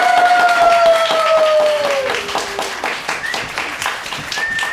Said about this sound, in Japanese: これより第78回小刻みインディアンのオリジナルは卒業式を開催します。皆様拍手をお願いします。